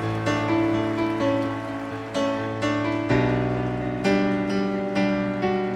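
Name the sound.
audience applause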